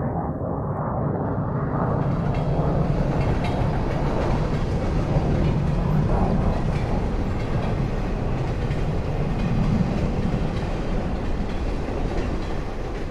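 A heavy freight train rumbles steadily along the rails, its deep, continuous roar swelling in the first seconds and then holding loud, with faint rhythmic clatter underneath. No one speaks.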